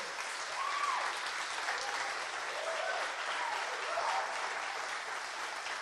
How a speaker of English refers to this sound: Before we get into this, can we give this guy a massive round of applause? That was an amazing thing you said.